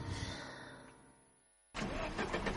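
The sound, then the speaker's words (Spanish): The engine of a broken-down automatic car cranks and sputters, then fades out without catching, before a sudden loud burst of engine noise cuts back in. No one speaks. “Que se me ha averiado el coche.”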